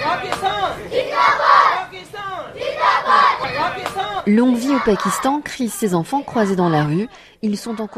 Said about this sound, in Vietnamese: Pakistan muôn năm, bọn trẻ hét vang khi gặp nhau trên đường phố. Chúng được người lớn xung quanh cổ vũ.